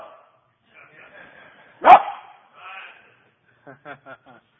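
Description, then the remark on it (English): A person imitates a dog with one loud bark, surrounded by softer vocal noises, then finishes with a quick run of four short, yappy pants or yips. “She stuck that tongue out and began to wag that tail. Acting just like a dog.”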